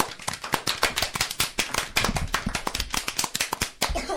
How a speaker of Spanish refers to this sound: Un aplauso para estos chicos que nos han leído enterito el conxuro de la queimada.